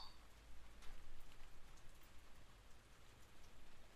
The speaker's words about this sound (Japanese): 雨止まないか。今日はどこも行けないね。